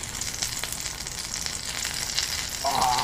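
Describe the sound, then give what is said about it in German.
Food sizzles steadily in a frying pan, a dense crackling hiss filling the whole clip, with a brief scrape or clink near the end and no voices. “reich mir doch mal was aus der Pfanne rüber.”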